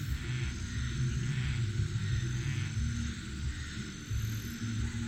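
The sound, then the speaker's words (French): A dense, steady chorus of frogs croaking at night, low throaty calls overlapping continuously with a faint higher buzzing texture above, filling the whole stretch with no voices. “Ce soir, les grenouilles gueulent encore.”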